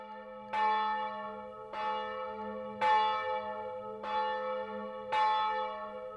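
Church bells ring in a steady sequence of five strikes about a second apart, each a bright, resonant clang whose overtones linger and overlap, with a low hum sustained underneath and no voices.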